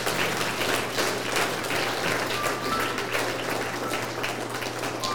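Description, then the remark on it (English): An audience gives a morning clap offering to God, clapping steadily for several seconds, a dense, sustained wash of many hands at moderate volume, with a low hum underneath and no talking. “Can you give Him a clap offering this morning?”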